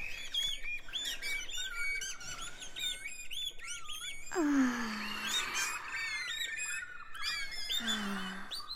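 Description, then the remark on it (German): A dense chorus of birds chirping and singing by a smelly rubbish enclosure, three birds perched up in a corner, with many overlapping whistles and trills, plus a few lower squawking calls rising above the busy chatter. “Es klingt hier nämlich wie in einem Vogelpark.”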